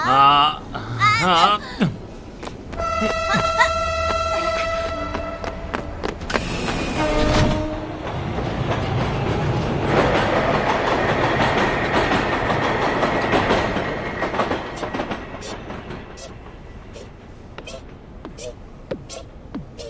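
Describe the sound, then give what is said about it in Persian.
A train bound for Forest Hill rolls along the rails with a steady rumble, brief tonal horn-like notes and a burst of hiss early on, then a rhythmic clickety-clack of wheels that grows sparser toward the end. “قطاری که به تپه جنگلی میره به زودی راه میفته.”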